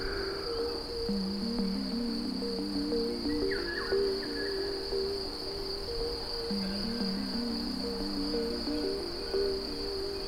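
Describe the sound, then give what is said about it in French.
Crickets chirp incessantly in a steady, unbroken high-pitched trill that runs the whole time, with lower droning calls rising and falling in the background, recorded outdoors in gusty wind. “Les grillons, eux, chantonnent de manière incessante.”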